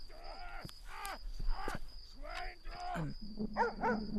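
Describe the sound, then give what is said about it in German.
A dog barks aggressively, letting out a rapid series of about seven harsh barks, with a faint steady high-pitched whine running underneath. “Hörst du den Hund bellen?”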